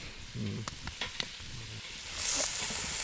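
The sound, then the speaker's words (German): Hot oil sizzles steadily in a kettle over a fire, the oil too hot, a dense hiss with scattered sharp crackles and pops, swelling louder and brighter toward the end. No one speaks. “Der Kessel muss runter vom Feuer, ganz schnell. Das Öl ist zu heiß.”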